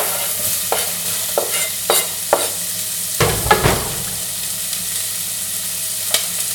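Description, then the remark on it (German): Onions sizzle steadily in about 1.5 tablespoons of hot olive oil in a risotto pot, being sautéed until translucent, with a series of sharp scraping stirs and a louder clatter of the utensil midway; no one speaks. “So, ich werde diese Zwiebeln jetzt schön glasig anbraten hier in dem Topf.”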